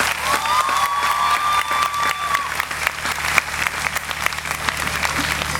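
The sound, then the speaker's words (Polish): Sustained audience applause fills the space, dense and steady clapping from a large crowd, with a faint whistle-like tone rising briefly in the first half. “Brawa!”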